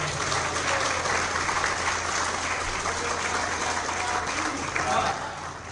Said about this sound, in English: Actually, when people clap, I think maybe I did something wrong. I hope I didn't entertain you.